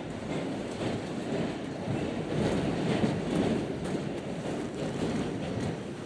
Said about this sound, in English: Of course, this is when the train chooses the super slow way to roll into the station.